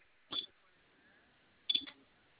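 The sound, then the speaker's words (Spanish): Two separate presses on a home alarm keypad, the asterisk key and then the number 1, each a short click with a brief high electronic beep, spaced over a second apart against a faint, quiet background with no talking. “Asterisco y el número 1.”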